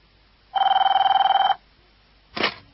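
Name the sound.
telephone ringing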